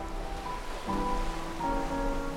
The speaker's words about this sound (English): She's the incredible ocean.